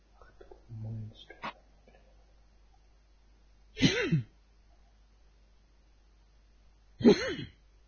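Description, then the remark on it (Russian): Two sharp sneezes a few seconds apart, each a short voiced burst with a hissy burst of air, preceded by some faint murmuring and a small click. “Будь здоров”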